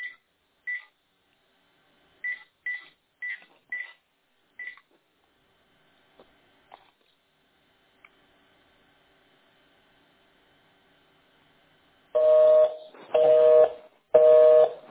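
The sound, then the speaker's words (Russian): A quick series of about eight short telephone keypad tones, then silence, then three louder, longer tones in a row, like a line signalling the call cannot go through. “То я вам с мобильника звоню.”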